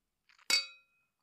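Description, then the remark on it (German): Drinking glasses clink together in a toast to love: a few soft taps, then one bright ringing clink that fades within a fraction of a second, fairly clear, with no voices. “Prost. Cheers.”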